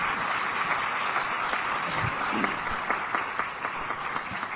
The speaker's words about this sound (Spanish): Recibámoslas con un gran aplauso. Bienvenida, doctora.